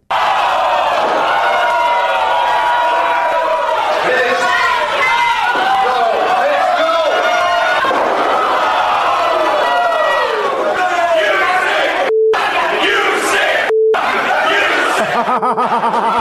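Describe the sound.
A large arena crowd chants insults and jeers loudly for about sixteen seconds at a man who had hit another with a chair, a dense roar of many voices with scattered laughter, briefly cutting out twice near the end.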